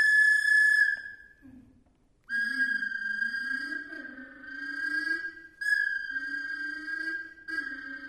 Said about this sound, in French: Elle klaxonne frénétiquement.